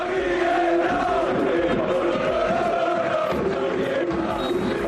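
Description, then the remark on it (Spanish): The crowd at Camp Nou chants in unison after Barça beat Atlético de Madrid 4–2, acclaiming coach Xavi Hernández: a loud, sustained roar of many voices with a rising and falling sung melody running steadily through the whole stretch. “Alves y Jordi Alba se salieron, contundencia en el ataque del equipo azulgrana, pero el triunfador lo gritaba el Camp Nou.”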